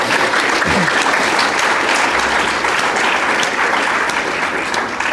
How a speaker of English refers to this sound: We have travelled from every part of Australia, including the Tiwi Islands, as well as New Zealand and the United States. Please give yourself a round of applause.